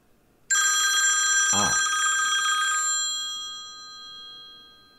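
telephone ringing

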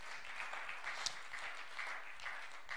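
audience clapping hands

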